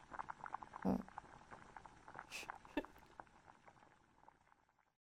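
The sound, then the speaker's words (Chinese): A cooking pot being washed with running water: steady splashing and scrubbing with a couple of sharp metallic clanks, fairly quiet, fading out near the end with no voices. “那当然是把锅洗一下啦，我懒得动了嘛。”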